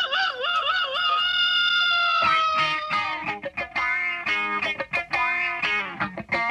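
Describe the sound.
A man's voice imitates a hen as a homemade doorbell, starting with a high, wavering squawk, then breaking into a quick run of choppy, repeated clucks. It is loud and strained, with no other sounds.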